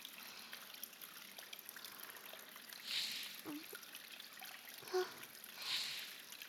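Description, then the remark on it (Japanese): A shower runs steadily with a soft, even hiss of falling water, swelling briefly a couple of times, with a few faint splashes and murmurs underneath. “ここのシャワー、とっても気持ちいいですね。”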